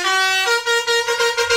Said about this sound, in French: Allez, les klaxons.